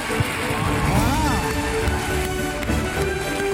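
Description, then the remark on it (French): The audience in the Salle Buñuel at the Cannes Film Festival applauds honoured guest Alain Delon on 19 May 2019, encouraged by festival head Thierry Frémaux: dense, steady clapping at an even level for a few seconds, with a brief rising vocal sound mixed into the crowd. “Le 19 mai 2019, le public cannois de la salle Buñuel applaudit d'abord timidement l'invité prestigieux du jour.”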